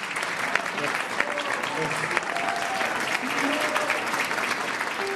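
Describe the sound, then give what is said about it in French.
Sustained audience applause at the Salon du Livre de Montréal for Joséphine Bacon: a dense, steady wash of many hands clapping at even loudness for several seconds, with faint voices mixed into the crowd. “Vous pouvez applaudir, hein, Joséphine Bacon.”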